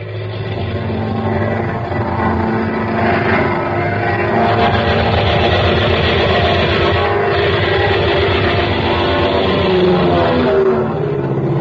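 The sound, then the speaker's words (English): A loud, steady airplane engine roar drones on for several seconds as the plane dives during shooting practice over a field near Gadeau, its rumbling tones shifting slightly in pitch, with no voices. “When I give you the signal, Sergeant, begin your dive.”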